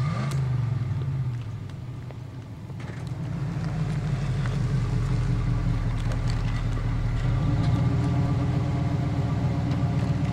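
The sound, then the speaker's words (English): A vehicle engine runs steadily with a deep, throbbing low rumble that dips briefly then revs back up and holds, with faint clicks and rattles over it. “Kill the engine.”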